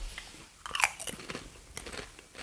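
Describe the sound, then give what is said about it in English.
Crunching and chewing of a crisp, curry-flavoured snack, with a sharp bite followed by several brittle crackles in an irregular rhythm, fairly quiet and with no talking. “The crunch is all right.”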